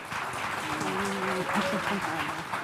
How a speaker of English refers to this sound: The audience clapped.